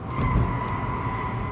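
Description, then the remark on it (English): A Rivian electric pickup truck tears fast through turns on a Consumer Reports test track, a steady high electric whine over low road and tire rumble, continuous, with no engine roar and no voices. “That's a Rivian electric pickup tearing through those same turns just as fast.”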